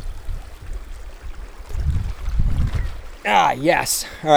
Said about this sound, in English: Hold it. Me getting across the river without getting soaked. Let me do this. Can I talk and do a river crossing at the same time? I'm going to say no.